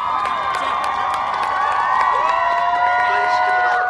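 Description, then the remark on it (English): A crowd of young student voices whoops and cheers continuously from the sidelines in a parking lot, cheering on other squads during a marching competition, with high shouts and rising calls layered over a dense, steady roar of people. “As groups are eliminated, they whoop and cheer from the sidelines for the others.”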